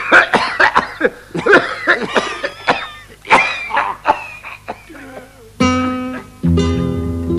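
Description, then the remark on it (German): A flurry of coughs from several audience members, overlapping irregularly, before two sustained musical chords ring out at the end. “Es darf selbstverständlich gehustet werden.”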